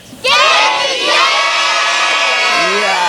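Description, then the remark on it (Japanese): The audience at a public recording concert for anime fans, sponsored by the Ebino Kogen Hotel in Japan, bursts into a loud, sustained shout of greeting, many voices roaring together in a dense, high-pitched wave that holds steady for about three seconds. “すごいボリュームですね。こちらの、ね、海老の高原の赤松林にね、こだまするような感じでございましてね。”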